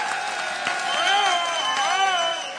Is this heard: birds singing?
no